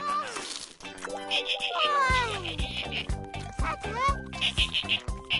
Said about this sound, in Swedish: Vad är det? Ja, hej delfin.